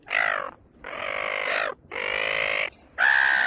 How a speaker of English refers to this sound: Those pesky beach-trodden seagulls swooped down and photobombed them in the worst way.